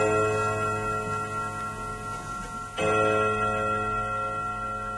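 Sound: clock striking midnight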